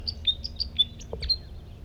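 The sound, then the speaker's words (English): Two male birds sing at once, trading quick, high-pitched chirping notes in a rapid, slightly overlapping series over a low background rumble, with no voices present. “That's a different male. Now two males are singing all together.”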